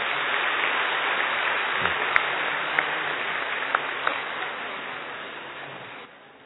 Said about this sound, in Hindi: और सब हम मिलके अपनी प्यारी दादी जी का क्या सेंचुरी पार यानी 101वां जन्मदिन मना रहे हैं। जरा ताली बजा लो।